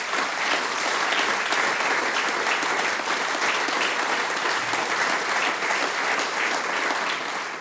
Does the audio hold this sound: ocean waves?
no